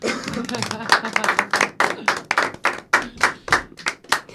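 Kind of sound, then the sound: crowd, hand clapping applause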